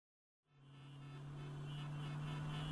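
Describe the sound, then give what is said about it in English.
After a moment of silence, the noise of heavy road traffic swells in and grows steadily louder, with a sustained, steady horn-like tone blaring over the rumble of many cars. No one speaks. “There are just too many cars these days. The traffic seems to get worse and worse.”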